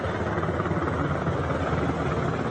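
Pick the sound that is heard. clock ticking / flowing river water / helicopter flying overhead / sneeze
helicopter flying overhead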